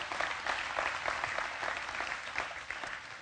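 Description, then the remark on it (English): A church audience claps steadily to honour mothers, a dense, sustained wash of applause that holds at an even level for a few seconds with no voices standing out. “Let's give moms another round of applause, if we could.”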